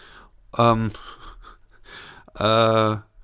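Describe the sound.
A voice imitates a sleeping man snoring: two loud, drawn-out rasping snorts, one early and one near the end, with quieter breathy inhaling sounds in between. Alone, with no other talk.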